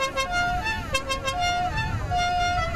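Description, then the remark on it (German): Several rally car horns honk at once as about 100 rally cars at the Hamburg Fish Market in Germany prepare for the start of a rally, long overlapping toots that shift in pitch and keep sounding throughout, over a low rumble of idling engines and a busy outdoor crowd. “Um uns herum stehen rund 100 Rallye-Autos auf dem Hamburger Fischmarkt. Die Teams bereiten sich auf den Start vor.”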